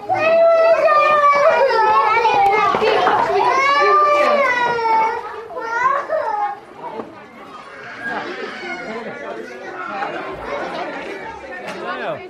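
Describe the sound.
Children in a classroom, heard through a microphone on a pupil's jumper: many high-pitched young voices chattering and calling out over one another in a constant babble, loudest at first and then settling into quieter overlapping talk.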